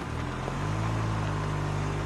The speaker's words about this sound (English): Now another car pulls into the church parking lot.